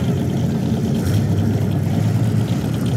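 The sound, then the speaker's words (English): The engine of the number 99 race car starts up in pole position and idles loudly, a steady, deep rumble with a rough throb that holds throughout, with no voices. “Derek is in pole position, starting up the number 99 Mohawk Market car.”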